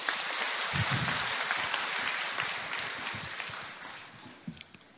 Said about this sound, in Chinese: 让我们再次以热烈的掌声感恩卢军宏台长为我们带来的精彩开示。